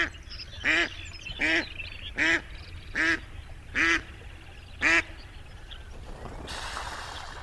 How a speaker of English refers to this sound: While ducks, landing on a pond, use a combination of raised wings and a bit of hydroplaning, like water skiing on their wide, webbed feet.